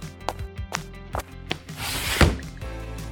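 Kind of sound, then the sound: household object, window being opened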